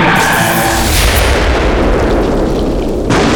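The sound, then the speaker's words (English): A guitar amplifier on a stage explodes after being turned all the way up and hit with a hard strum, in a loud, sustained blast with fire and smoke. A ringing amplified tone fades into roaring, crackling rumble of feedback and distortion as it topples onto the stage, with a fresh burst of hiss just before the end. “A flash of fire and several plumes of smoke rose from behind one of the amps as it toppled forward, slamming onto the stage in a mess of feedback and distortion, and toppled in a smoking ruin.”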